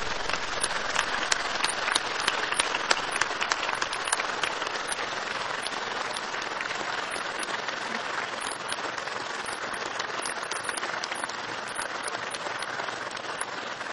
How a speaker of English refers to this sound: I would like to have the light so that I can ask all of our graduates, only the graduates, to stand up and give a big round of applause for all their friends and families who have been behind them, and the professors and staff at McGill.